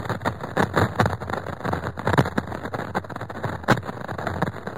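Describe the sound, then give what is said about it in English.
Radio recording of lightning in a storm on Saturn, collected by the Cassini spacecraft: a dense, steady hiss of static full of sharp crackles and pops, irregular like rain, with a few louder snaps and no voices. “Well, as you say, the Cassini spacecraft is collecting that audio data. Let's hear that, because we have a recording.”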